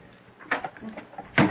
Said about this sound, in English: Will you open the door